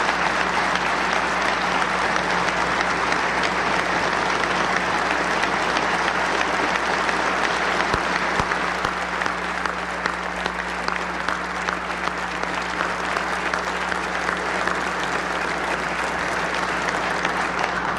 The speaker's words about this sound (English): But I want to also say we have to continue to attract, retain, reward, and appreciate our state talent that works so hard for all of us in state government. Let's also give them a round of applause.